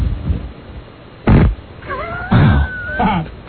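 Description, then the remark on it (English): A fart: several loud, brief blasts with squeaky, wavering high-pitched tones sliding between them, heard on its own with no talking. “That fart brought to you by ….”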